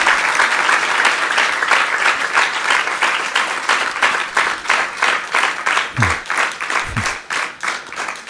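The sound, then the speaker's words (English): A crowd bursts into sustained applause for a woman, many hands clapping steadily at an even loudness throughout, with a couple of brief low thumps near the end. “Give her a big round of applause.”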